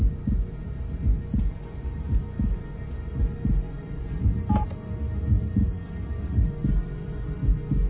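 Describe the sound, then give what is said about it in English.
A steady human heartbeat of a man thumps in a regular, even rhythm, low, with a faint hum underneath and no voices. “You could play the piano by that heartbeat of his.”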